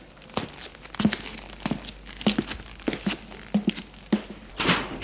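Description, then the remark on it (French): A steady series of footsteps thuds along at a walking pace, followed at the end by a brief, rougher rustling noise as a door opens. No one speaks. “tout à coup, il entend des pas.”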